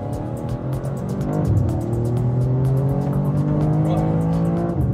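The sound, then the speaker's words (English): A race car engine roars as it accelerates, its pitch climbing and then holding at a high, strained whine, with a fast steady ticking running over the top throughout. “I knew that car racing was physically demanding, but I expected nothing like this.”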